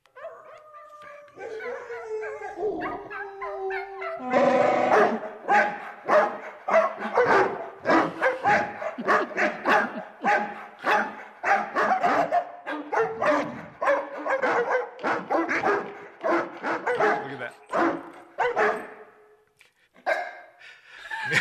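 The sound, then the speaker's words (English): A brief drawn-out howl gives way to a long, loud run of dog barks in quick rhythmic bursts, several dogs seemingly barking together, with no talking, from a preview of Volkswagen's commercial called The Bark Side. “For example, Volkswagen, which had last year's hit commercial, which was an homage to Star Wars, has already seeded the web with a preview of this year's version. It's called The Bark Side.”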